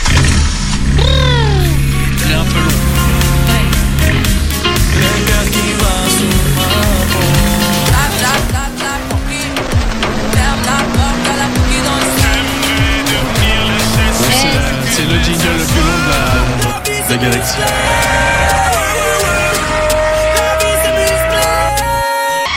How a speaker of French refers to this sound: C'est une voiture qui fonce dans un mur. Voilà, c'est ça.